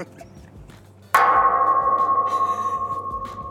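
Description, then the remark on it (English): A single sharp clang as a golf ball, hit by someone working on their swing, strikes the metal border fence in Eagle Pass, followed by a long, steady ringing tone that hums on for several seconds and slowly fades. “That's what it sounds like when a golf ball hits the border fence.”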